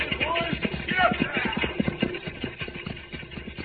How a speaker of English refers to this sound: the stagecoach to Brimstone comes. They must be in a hurry. Those horses are at a high gallop.